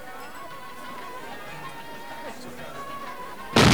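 A low, busy background murmur runs steadily, then a sudden loud explosion nearby bursts in right at the end, abrupt, throwing a burning motorcycle into a 4x4 and drowning out everything else.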